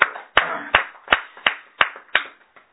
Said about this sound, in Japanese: 盛大な拍手でお祝いします。